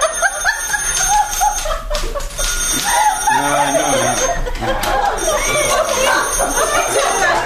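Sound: telephone ringing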